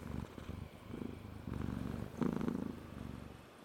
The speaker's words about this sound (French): Il tourne 2-3 fois sur lui-même, s'installe, ronronne et se met à patouner.